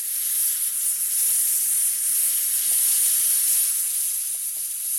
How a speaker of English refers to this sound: They hooked up the salt water to this machine, and then... fan on. The machine let forth a giant spray of salt water particles down the aircraft runway.